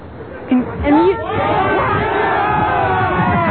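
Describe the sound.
A crowd of well over 106 people gathered for a march down Main Street shouts together in unison, telling someone to wind it up. Many voices rise into one loud, sustained roar after a brief murmur, holding steady with overlapping pitches until the end.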